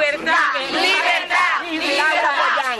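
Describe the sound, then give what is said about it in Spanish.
A large crowd shouts cries of freedom ("Libertad") together, heard Sunday after Sunday, in loud, sustained cries, many voices overlapping into a continuous roar with rising and falling surges and only a brief dip before swelling again. “Los gritos de libertad se escuchaban domingo tras domingo.”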